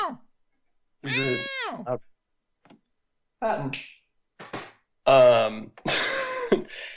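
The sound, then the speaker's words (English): A drawn-out, wavering cat meow rings out loud as the cat, shut in a room after a draft blew the door closed, meows at the door, followed after short pauses by a few briefer yowling, throaty vocal sounds. “Yeah, my cat was meowing at the door.”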